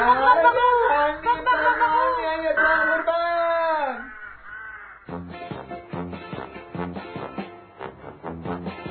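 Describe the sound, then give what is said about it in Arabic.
A group of crows caw in a loud, raucous chorus of rapid, overlapping calls, preceded by a few seconds of drawn-out, wavering squawks, as they try to attack a parrot and steal things from its home. The sound is busy, with no talking. “ولما وصلت شاهدت مجموعة من الغربان تحاول أن تعتدي على ببغاء وتسرق أشياء من بيته، والببغاء لوحده غير قادر على مواجهتهم.”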